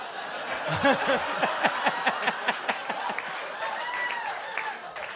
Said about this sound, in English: By the way, you guys are applauding because you think Lauren means that Trump won't appoint a woman, but Lauren doesn't believe a woman can do the job.